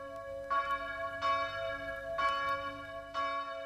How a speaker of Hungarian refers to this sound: Közös imára hívnak naponta ötször Chicago harangjai.